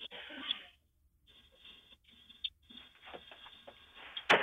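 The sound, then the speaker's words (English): A man kicks in the door of a home, recorded by a Ring device: faint scuffs and light taps over low, muffled background noise, then one sudden, loud, sharp bang right at the end. “The first thing you're going to hear is him kicking in the door.”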